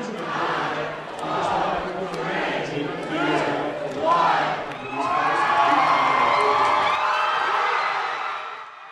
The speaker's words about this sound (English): The crowd counted down to the closing of the polls on the West Coast and cheered the immediate announcement that Obama was projected to be the next president of the United States.